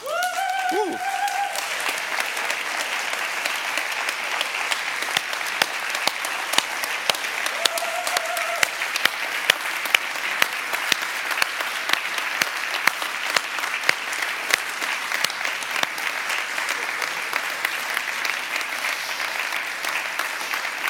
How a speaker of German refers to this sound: sondern so viele Leute feiern heute eure Taufe mit, dreht doch nochmal euch um und gebt ihnen nochmal einen kräftigen Applaus.